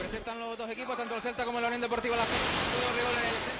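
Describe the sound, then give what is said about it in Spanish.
Stadium sprinklers hiss steadily across a football grass pitch, watering the part farthest from the players. A constant broad spray of water runs beneath a man's voice and then continues on its own, fairly loud. “Siguen regando una parte, la que queda más alejada a la zona donde se encuentran los futbolistas”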